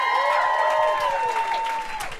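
An audience at the start of a live show applauds steadily, dense and fairly loud, with sustained whistles and cheering gliding over the clapping throughout.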